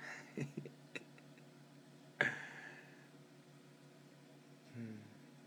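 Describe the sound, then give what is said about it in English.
A microwave oven hums steadily in a low drone, punctuated by a few soft clicks and one sharper clatter midway, with a brief low murmur near the end. “Man, I could stare into a microwave forever.”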